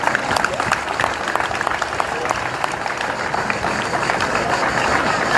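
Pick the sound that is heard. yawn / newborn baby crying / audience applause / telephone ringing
audience applause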